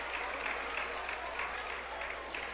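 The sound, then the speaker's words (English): A large arena crowd at a hockey game applauds steadily for injured player Colin Harris, who is bleeding and lost a tooth. The clapping is a dense wash that holds at an even level throughout without building or fading. “Gets an appreciative hand from the crowd here, Colin Harris.”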